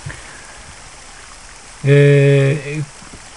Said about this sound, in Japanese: こちら福島県いわき市からの収録ですが、あまりにも暑いので、小川の近くに来て、録音しております。後ろで、小川のせせらぎが多少入ってるでしょうか。